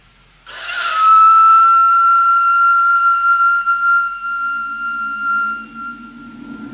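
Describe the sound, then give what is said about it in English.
A single long, shrill blast from an old whistle, resembling a modern dog whistle and still in working order, loud and held steady for several seconds before trailing off as a low, rushing rumble rises underneath. “Now, this thing is quite obviously a whistle. Not unlike a modern dog whistle, indeed.”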